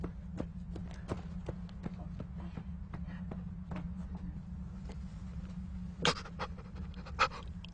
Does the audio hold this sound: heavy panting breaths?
yes